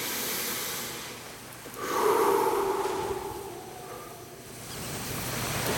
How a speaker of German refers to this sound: Wir atmen alle tief durch.